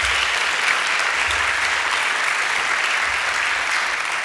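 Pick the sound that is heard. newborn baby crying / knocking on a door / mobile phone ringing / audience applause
audience applause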